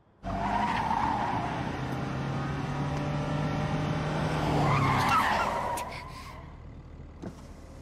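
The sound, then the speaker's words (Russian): A car driven by an aunt approaches and rumbles steadily, then tires screech sharply as it skids to a halt, the noise fading into quiet idling afterward. “Тетушка, осторожнее. Водить-то умеешь?”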